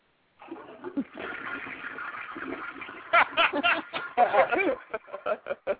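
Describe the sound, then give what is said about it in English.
A toilet flushes with a steady rushing swirl of water for a few seconds, then bursts of snickering laughter break in over the fading rush. “Breaking mute has flushed.”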